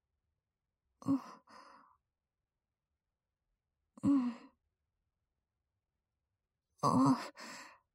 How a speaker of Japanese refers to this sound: またあくびしてる。いいよ、寝て。